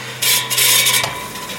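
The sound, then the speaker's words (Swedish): An electric fan's mechanism clicks and rasps loudly for about a second over a steady motor hum, then settles into a quieter whir. No one speaks. “De har hackat min fläkt.”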